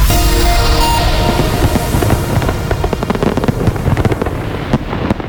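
A dense barrage of fireworks bursts, sharp crackling pops and booms overlapping in rapid, irregular succession over a continuous rumbling roar, loud and sustained throughout with no voices.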